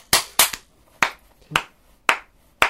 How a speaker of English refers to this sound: My dad, he'll be really quiet and then he'll just explode if something funny happens. Does he even not... I was going to say, does he not laugh? He just starts clapping.